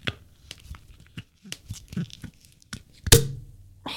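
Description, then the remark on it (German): Foil crinkles and scratches in short bursts, then a sharp cork pop bursts out, followed by a soft, steady hiss of escaping gas as a sparkling wine bottle is opened. “Wo kommt denn jetzt dieser Sekt auf einmal her?”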